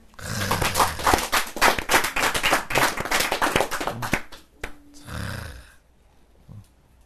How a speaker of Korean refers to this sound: 박수.